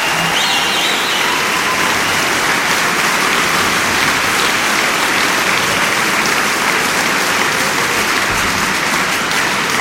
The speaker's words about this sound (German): Und für diesen Mut, das zu machen, kommt der Applaus aus der Metropolishalle. Für die Kolleginnen und Kollegen von Radio Potsdam.